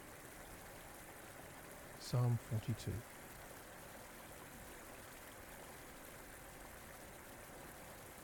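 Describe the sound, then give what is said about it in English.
River water rushes steadily and evenly from start to finish, a constant broad wash of flowing sound. A voice briefly speaks a few words over it early on, then the water continues alone. “we're going to let the sight and the sound of this river mingle with these thoughts from Psalm 42”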